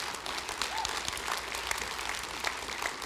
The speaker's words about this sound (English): I believe we need to support our police, our fire department. I think we should have public schools. And say, clap for the police and fire department.